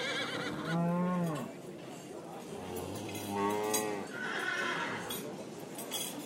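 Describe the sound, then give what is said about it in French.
Two loud, quavering horse whinnies, a few seconds apart, ring out over a steady murmur of farm-fair background noise with scattered animal sounds and faint hoof clatter, at a livestock fair on the Place du Foirail of a village, where cows, horses, pigs, turkeys and geese were brought to be sold. “À l'époque, ici, il y avait des foires aux animaux. On y amenait les vaches, les chevaux, les cochons, les dindons, les oies, pour les vendre.”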